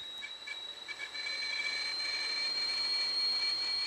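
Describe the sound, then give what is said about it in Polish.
A kettle boiling water for coffee in a house without electricity in the middle of a forest, giving off a steady, shrill whistle over a hissing rush that swells louder after the first second and then holds, with no voices. “Kawa się gotuje, zaraz będzie gotowa, jak się uciszy. Imbryczek.”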